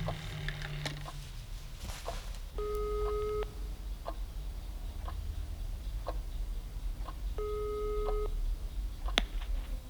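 A mobile phone ringback tone, from a call placed from an office to the director of a senior residence, sounds twice, each a steady electronic burr lasting about a second, separated by a pause, over faint background noise and a few soft ticks.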